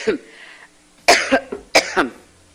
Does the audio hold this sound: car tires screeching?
no